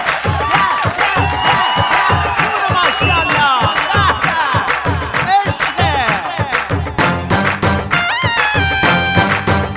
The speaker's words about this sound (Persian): همگی حاضر بشیم، دستا سوتا جیغا بیا بلا ماشالله.